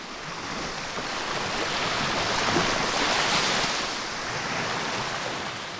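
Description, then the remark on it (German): Steady Black Sea surf washing in, recorded in the Odessa region, a broad continuous hiss of waves that swells slightly toward the middle and eases again, with a touch of wind and no voices. “Ja, man hört das Schwarze Meer.”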